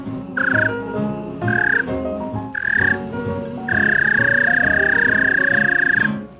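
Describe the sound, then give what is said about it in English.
A whistle to call a large dog: three short, steady, mid-pitched whistle notes followed by one long held blast, sounding over a continuous low, buzzing background. “If so, here's the way you'd whistle at that fine animal.”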